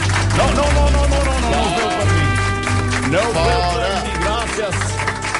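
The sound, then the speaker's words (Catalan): An audience applauds with steady, dense clapping throughout, while voices talk and call out loudly over the applause. “No, és un aplaudiment pràcticament a punta de pistola.”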